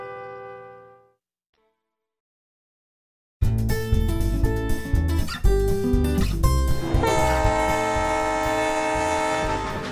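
A train sound effect for The Takeaway Train: a horn sounds with rumbling rail noise and clattering wheels, loud, starting abruptly after a short silence and continuing steadily to the end.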